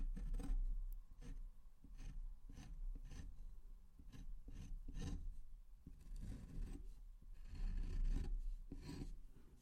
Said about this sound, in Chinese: 把这里打磨一下。